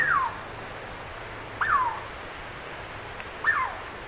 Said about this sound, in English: Doesn't that sound like a bird? Actually, we're hearing a Douglas squirrel, a pint-sized chestnut red native of forests from the Sierra Nevadas of California northward to coastal British Columbia and southeast Alaska.